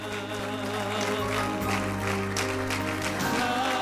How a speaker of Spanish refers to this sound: Siga aplaudiendo, hay mucho más.